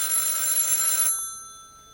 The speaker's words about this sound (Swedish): Va? Telefon. Telefon.